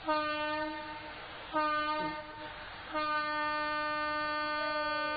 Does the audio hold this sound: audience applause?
no